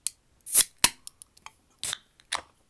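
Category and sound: household object, glasses clinking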